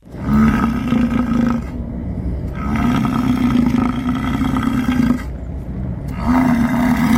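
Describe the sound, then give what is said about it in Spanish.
American bison bellow in three long, deep, rumbling roars, each lasting one to two and a half seconds with brief pauses between. The calls are loud and rough with a droning tone, and nobody speaks. “Esto en realidad son bisontes americanos.”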